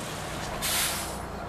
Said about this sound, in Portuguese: Ah, veio o autocarro.